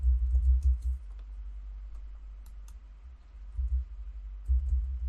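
Irregular, fairly soft clicks of someone typing on a computer keyboard, scattered across a few seconds over a steady low background rumble, with no one speaking.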